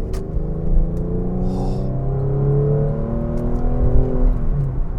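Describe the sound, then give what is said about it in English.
The engine of a 2001 Porsche 911 Carrera 4, an all-wheel-drive sports car, drones and revs, its layered harmonic growl shifting in pitch as it pulls through the gears, with no voices over it. “This is a 2001 Porsche 911 Carrera 4.”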